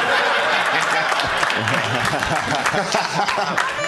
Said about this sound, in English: Why are you clapping for her? Why? Because of what she has to put up with.